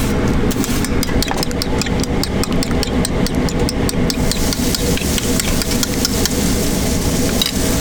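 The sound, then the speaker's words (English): Hash browns cooking on a flat top grill at a Waffle House in Avondale Estates: a steady, loud sizzle and hum, broken by quick metallic taps and scrapes of a spatula in an uneven rhythm. No one speaks. “Back in the Waffle House where Avondale Estates people still eat, Gabrielle Garrett is cooking some hash browns on the flat top grill.”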